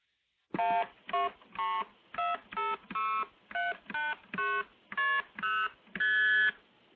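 Twelve multi-frequency telephone signaling tones play in a quick, even sequence of short, steady beeps, each a bright two-note chord at a slightly different pitch, with the final tone held a little longer.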